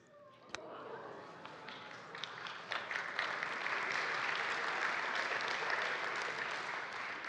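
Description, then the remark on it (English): Scattered applause from a church audience begins with a few isolated, hesitant claps and builds into steady, moderate clapping that carries on without any voices over it. “Now, I'm really happy that you're kind of like hesitantly clapping”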